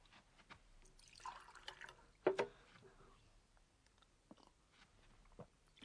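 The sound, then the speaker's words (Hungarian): Water pours briefly into a glass, followed by a sharp clink and a few quiet gulps or sips, all fairly soft with no talking. “Szabad egy kis vizet?”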